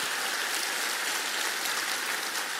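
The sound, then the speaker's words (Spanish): A crowd applauds steadily in honour of Christ, a dense, even wash of many hands clapping together at a constant level, with no voices heard over it for the whole stretch. “Y no puedo, vamos a dar un aplauso a Él, solo a Él.”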